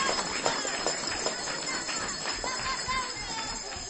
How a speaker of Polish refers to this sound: O, chyba najgłośniejsze były Żory, a to jest świadectwo, że to jest chyba najliczniejsza grupa, bo z Żor przyjechały aż 2 autokary. Dlatego brawa dla Żor gorące i dla wszystkich uczestników naszego spotkania.